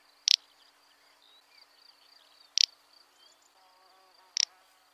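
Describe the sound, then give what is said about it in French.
Three short, dry, snorting 'prrt' calls of a little bustard (French: outarde canepetière), a call often compared to a human fart, spaced a couple of seconds apart, over a steady high hum of insects and crickets. “Son chant a souvent été comparé à un paix humain, donc littéralement une canne qui pète.”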